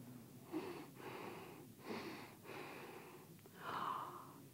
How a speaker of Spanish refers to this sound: Aquella sombra se detuvo a unos metros de distancia del gatito y olfateó el aire.